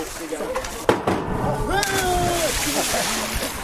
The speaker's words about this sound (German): Salto vom Dreier, mit den Füßen zuerst im Wasser gelandet. Körper und richtig geflogen in der Luft. Vom Dreier. In der Fachsprache heißt es auch Katze.